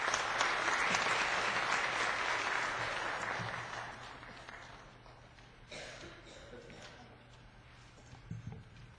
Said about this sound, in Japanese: 拍手持ってお招きしましょう。